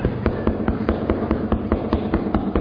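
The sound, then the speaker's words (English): Rapid, steady knocking by housekeeping on a hotel room door, about a dozen sharp wooden raps in quick succession at an even rhythm, fairly loud, with no voices. “Yeah, I'm gonna need to wipe up your blood if you keep knocking on that fucking door.”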